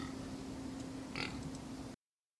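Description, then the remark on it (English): A pig named Wilbur at the Delta County Fair, getting ready for a bath, grunts and snuffles right up against the microphone as it tries to eat it: a continuous rough rumble with a brief sharper snort about halfway through. “Just trying to eat my microphone.”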